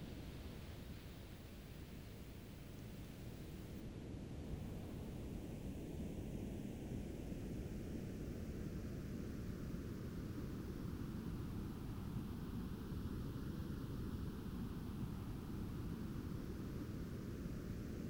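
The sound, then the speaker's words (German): Steady, continuous pink noise, its levels in the higher and lower frequency ranges adjusted to offset typical human hearing loss, fills the whole recording, a broad, even hiss weighted toward the lower end, with a faint slow swirling quality and no voices. “Was Sie nun hören, ist Rosa-Rauschen, ein Klang, der alle Klänge enthält.”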